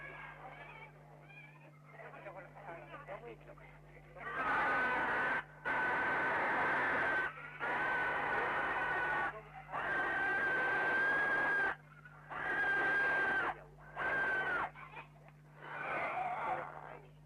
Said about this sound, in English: And there's lots of pigs, and lots and lots and lots of noise. And there's about 7 or 8, or maybe 9 natives now with knives, and they're all killing pigs. The noise is dying down as the pigs die.